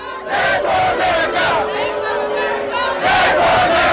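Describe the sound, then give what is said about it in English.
About 500 SEIU protesters on a man's lawn yell a chant in unison, voices rising and falling in a steady rhythmic cadence, loud and continuous with a dense wash of shouting throughout. “And 500 people. Wasn't it SEIU? SEIU. Mm-hmm. Show up on the guy's lawn yelling this.”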